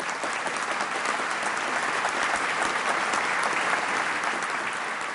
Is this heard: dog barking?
no